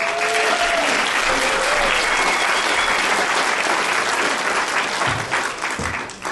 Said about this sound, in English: Please give him a warm round of applause.